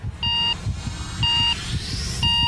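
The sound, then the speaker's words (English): An on-screen missile launch countdown for a large missile test, the missile raised on a mobile launcher: three loud, evenly spaced electronic beeps about a second apart, each lasting half a second, over a low rumbling background with a faint rising whine. “So we can see them wheeling the thing out and raising it up on a mobile launcher, and then there's an on-screen countdown.”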